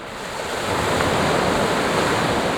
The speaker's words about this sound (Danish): Bølgerne slår ind mod strandkanten her på en af St. Jans verdensberømte strande. Der er sandbund, palmer og folk, der nyder livet, så langt øjet rækker.